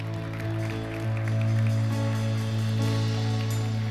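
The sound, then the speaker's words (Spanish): A church audience claps steadily, giving applause to the Lord, in a dense, rain-like patter that swells slightly midway, over a sustained low keyboard chord holding underneath. “Si tienes fe conmigo, demuéstralo dando un aplauso al Señor.”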